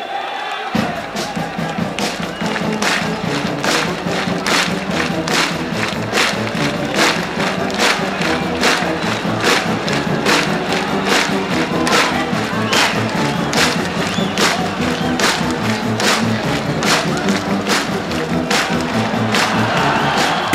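A packed concert crowd of fans, some perched on tree branches, roars and cheers nonstop, loud and dense, with a steady rhythmic pounding of claps or stomps running through the whole stretch.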